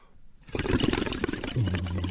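Loud bubbling and gurgling as air is blown hard through a plastic blowpipe into a half-filled water bottle, starting after a brief quiet moment, with a low buzzing vibration at the lips rising toward the end.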